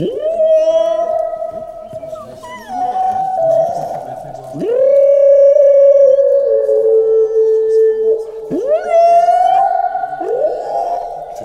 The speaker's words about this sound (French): Donc, c'est juste pour vous dire que les baleines à bosse, c'est des sacrés chanteurs. Puis que c'est pas nous autres qui avons inventé la chanson à répondre.